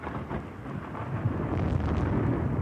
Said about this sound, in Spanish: ¡Llueve!